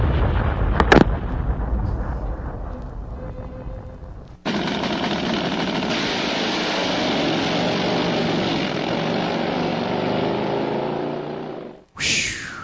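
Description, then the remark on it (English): Racing airplanes roar past and fly off into the distance with a loud, steady propeller drone. The sound begins after a brief rumbling lead-in, holds for about seven seconds, then cuts off abruptly. No one speaks. “Off into the distance they go.”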